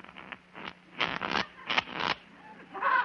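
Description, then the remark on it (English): Playing cards being shuffled before dealing for a card game: a few short papery flicks, then two longer crisp riffling bursts with a brief pause between them, fairly loud and with no voices. “Boys, let's deal little cards, huh? Very well. I'll shuffle.”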